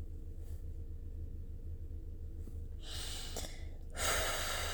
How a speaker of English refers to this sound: I'm just trying to practice breathing because I want to make you so happy.